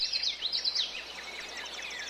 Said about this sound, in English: But in the meantime, we can listen maybe to some birds. We're going to listen to the ruby-throated hummingbird. This is Bird Note.